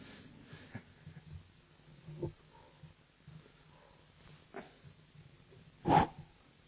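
Dogs bark intermittently, a few scattered barks spaced a couple of seconds apart, with the loudest, sharpest bark near the end over a quiet background.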